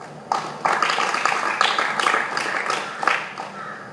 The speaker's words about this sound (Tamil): கை தட்டுங்கம்மா.